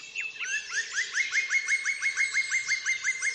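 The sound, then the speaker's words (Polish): A lively flurry of bird chirps as the birds fly off, a quick steady series of bright, repeated tweets over a busy background of more birdsong, clear, with no voices. “Pokiwały głowami ptaki i rozleciały się, niektóre nawet psychicznie.”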